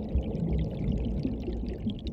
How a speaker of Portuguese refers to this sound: Por isso o som da água ativa nossas memórias mais primitivas.